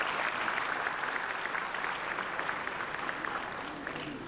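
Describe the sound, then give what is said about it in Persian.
An audience claps steadily for a few seconds after a ney performance lasting 3 minutes 10 seconds, a dense, even patter of many hands with no voices, holding at a fairly constant loudness throughout. “خواهش میکنم تشویقشون بکنید.”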